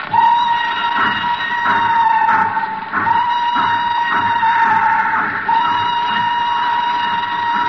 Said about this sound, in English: We have to get on the train.